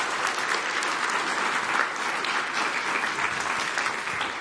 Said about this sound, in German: Ich glaube, das ist nochmal ein Applaus wert.